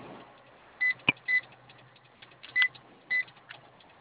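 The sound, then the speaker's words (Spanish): Four short, high electronic beeps at uneven intervals as the code 9876 is entered on a keypad from the glove compartment, with a sharp click between the first two and faint background hum. “Apóyame si prende el teclado, por favor, de la guantera. Sí, está prendido. ¿Puedes meter la clave 9876?”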